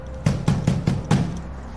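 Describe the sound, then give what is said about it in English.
A fist pounds on a door bearing 'no soliciting' stickers five times in a steady, evenly spaced rhythm, each blow a heavy, low, booming thud with no voices. “Fist pounds on a door with stickers of no soliciting.”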